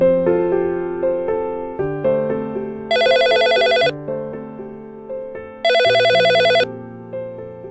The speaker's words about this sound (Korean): 새벽 5시 15분 한 통의 전화가 다급하게 울렸다.